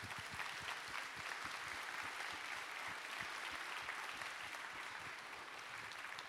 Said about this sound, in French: Et que dire de toute l'équipe de la technique qui aussi se battent comme ils peuvent toute la journée dans l'ombre, sans que vous en rendiez forcément compte, pardon, pour que tout se passe bien. Encore merci, on peut les applaudir.